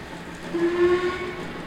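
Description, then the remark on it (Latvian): A small model train runs along its tracks past lit-up little houses, set on a board decorated with old railway ticket pictures, with a steady, low rumbling whir, and a short, clear whistle-like tone rises briefly in the middle. No one speaks. “Mazs modeļu vilciens traucas garām izgaismotām mājiņām, kas kopā ar sliedēm ir novietots uz palikņa, kas izdekorēts ar sendienu dzelzceļa biļešu attēliem.”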